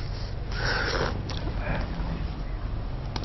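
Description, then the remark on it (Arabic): Two congested, breathy sniffs from a stuffy nose caused by an allergy, apparently from the air conditioner, the first longer and stronger, followed by quiet and a faint third intake near the end, with no talking. “من المكيف الظاهر.”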